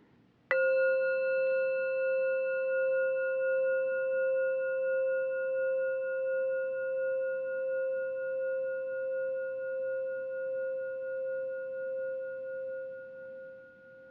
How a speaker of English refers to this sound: And now, opening your ears and listening to the sound of the bell. Raising your hand when you don't hear the sound of the bell anymore.